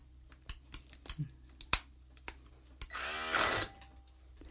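Several sharp clicks and knocks, then a short, loud whirring burst of a mixer churning through boiled chickpeas with some cooking water left in, lasting under a second with a buzzing motor whine before stopping abruptly.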